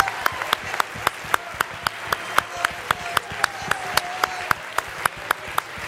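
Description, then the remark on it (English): An audience claps in unison to a steady, brisk beat as praise to the Lord during worship, the sharp claps repeating about three times a second, with faint voices audible underneath. “Now let's add a clap to our praise.”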